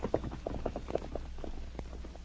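Horse hoofbeats clip-clop in a quick, steady rhythm, growing a little softer toward the end as a rider heads off on horseback toward Selkirk, with no voices.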